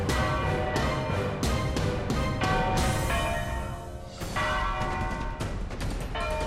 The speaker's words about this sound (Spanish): Suenan a estas horas las campanas en Madrid y no llaman a la misa del gallo. Pocos podremos olvidar esta Nochebuena de 1734, en la que el toque de campana del convento de San Gil está llamando a todos cuantos puedan ayudar a sofocar el incendio